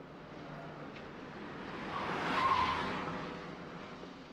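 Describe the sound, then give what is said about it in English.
A car taken off the street speeds along a street in a chase after an elevated train, its engine roar swelling, with a brief tire squeal at the peak before the noise eases off. No voices. “And so Doyle has to run down into the street and confiscate a car and try to chase the elevated train with somebody's car that he's taken just off the street.”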